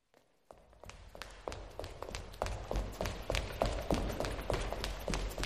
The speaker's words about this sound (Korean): 우리 그룹 마지막 한 명의 급한 발소리가 들려왔다.